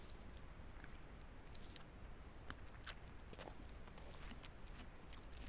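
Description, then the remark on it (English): Quiet chewing of something sweet with soft irregular crunches and wet clicks over a faint steady background hiss, no voices present. “No, I'm chewing.”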